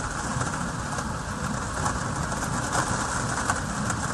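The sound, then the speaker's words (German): A heavy rain shower pelts down on plexiglass covers, heard from inside a dry cellar, a dense, steady drumming of countless drops, with no pauses and no voices. “Und jetzt bin ich im Keller herunter und ihr hört jetzt mal einen heftigen Regenschauer auf meine Plexiglasabdeckungen prasseln. So hört sich das also an.”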